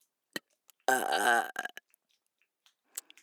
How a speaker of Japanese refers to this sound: なんでよりによってゲップなんだよ。